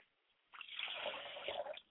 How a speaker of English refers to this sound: I pour libations to my mother's spirit, and I say Ashe.